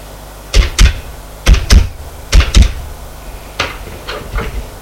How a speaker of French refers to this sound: Le commissaire prend son téléphone et fait un numéro.